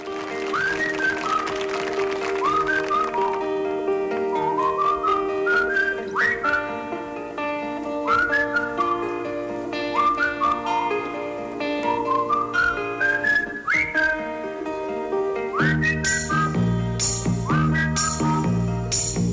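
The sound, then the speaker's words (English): A bright, cheerful whistled melody with swooping phrases rides over a full band backing of steady chords and rhythm, playing continuously and loudly throughout, like an instrumental pop record. No one speaks. “This was … by …. Let's hear it first.”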